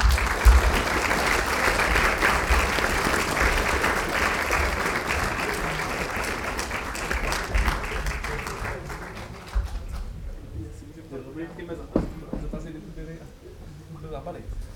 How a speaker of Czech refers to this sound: Tak zatleskejte tady, slyšně.